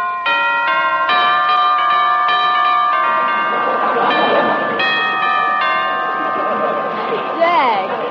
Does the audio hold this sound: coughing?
no